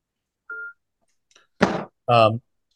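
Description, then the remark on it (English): A single short electronic beep from a phone being switched off, followed by faint clicks, then a brief breathy burst and a short voiced sound. Quiet, with no other background. “I'm just going to turn my phone.”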